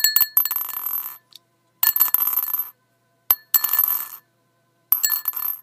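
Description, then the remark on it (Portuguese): Aqua-green glass marbles are dropped one by one into a glass jar set on a counter, in four short bursts, each a rattle of bright clinks with high, bell-like ringing, separated by brief silences. “Ao terminar seu discurso, ela colocou em cima da bancada um pote de vidro e começou a jogar bolinhas de vidro na cor verde água, uma por uma, sem acelerar.”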